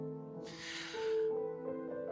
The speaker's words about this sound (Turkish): Dinle bak. Bekle. Bekle. Önce derin bir nefes alayım.